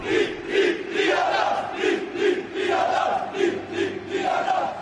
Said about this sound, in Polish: A to była moja relacja, ta czwartkowa z Torunia, a tak skandowali w tle mojej rozmowy z Damianem Balińskim na stadionie w Toruniu leszczyńscy kibice.